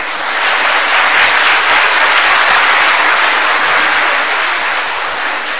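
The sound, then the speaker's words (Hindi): A crowd breaks into sustained applause, dense clapping from many hands, steady and loud for several seconds with no one speaking. “ताली बजाना तो आता है इनके, वो भी भूल गए.”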